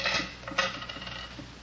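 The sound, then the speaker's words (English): Keys and coins taken out of someone's pockets are set down, a quick cluster of bright metallic jingles and clinks with two sharper rattles, then softer settling taps, with no talking. “Keys.”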